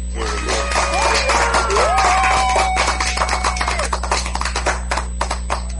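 clapping sound effect

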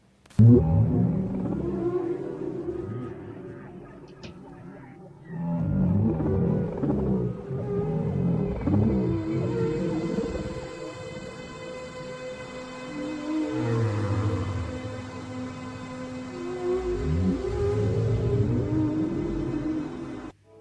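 whale vocalization

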